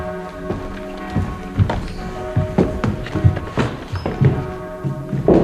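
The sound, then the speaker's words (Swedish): Footsteps knock and thud on a hard floor in an uneven rhythm, with a faint creak of a heavy old church door dating from 1737 that leads into the church's museum; no talking. “Det är en dörr ifrån 1737 och den här dörren, den leder in till vad vi kallar för kyrkans museum eller museet.”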